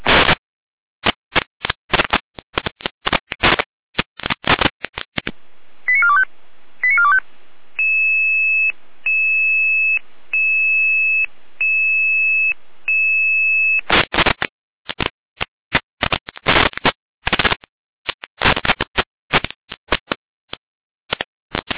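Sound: radio alerting tones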